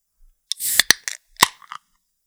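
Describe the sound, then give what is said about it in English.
Beer cans being cracked open: a fizzy hiss with a couple of sharp metallic snaps, then another crisp pop and brief fizz, loud against otherwise quiet surroundings. “Well, why don't we crack some beers and talk about them?”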